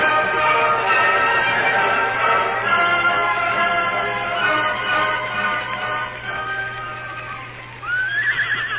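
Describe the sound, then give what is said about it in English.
Horses neigh and whinny loudly and repeatedly, long stacked cries rising and falling, with faint hoofbeats of horses riding off beneath them and a steady low hum throughout. “We'll take the horses with us. Come on, Silver. Come on, fella. Get up.”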